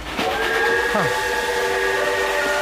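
A loud, sustained train whistle sounds a steady chord-like blast for over two seconds, with a brief sliding pitch near the start, set against a hissy, rumbling background.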